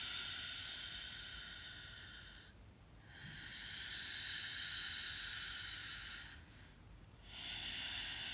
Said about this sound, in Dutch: De Ujjayi ademhaling. Inademen. En uitademen.